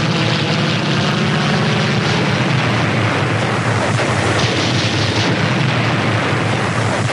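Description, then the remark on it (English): A loud, unbroken battle din played from huge speakers on the American embassy roof in Guatemala's capital, with American propeller aircraft roaring overhead as they swoop past the National Palace amid heavy rumbling blasts, the roar holding steady for several seconds with no voices. “While the American embassy played battle sounds from huge speakers on its roof, American planes swooped past the National Palace.”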